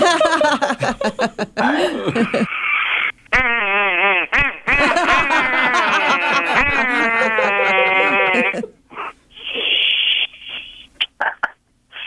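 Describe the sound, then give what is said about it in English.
A duck call is blown loudly to imitate a wounded duck, producing a long run of nasal, wavering quacks that rise and fall, followed by several shorter, choppy honks near the end. “Blow your duck call.”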